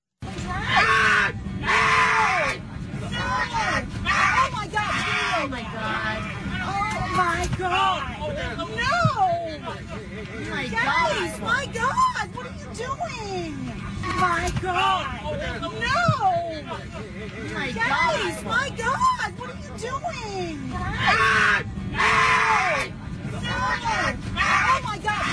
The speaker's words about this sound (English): She does make the video go. Like, without her, it's just a guy screaming. Could be anybody.